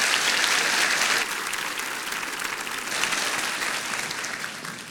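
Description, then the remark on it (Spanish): An audience claps steadily for several seconds, a dense wash of many hands, loud at first and easing slightly after the first second, with no one speaking. “Entonces aplaudan y yo tomo agua.”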